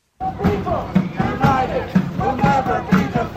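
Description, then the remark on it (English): A dense crowd of hundreds of protesters on the Minneapolis street where Alex Pretty was shot dead, demanding that ICE be withdrawn from the city; many voices overlap into a loud, continuous outdoor babble, with low thumps recurring at a steady, roughly half-second rhythm. “There are hundreds of protesters out on this street.”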